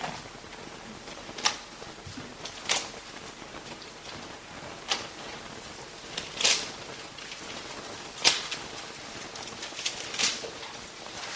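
Bible pages turning in a church as the audience turns to Matthew chapter 5: a quiet, continuous papery rustle broken by about half a dozen sharper swishes at irregular intervals, with no one speaking.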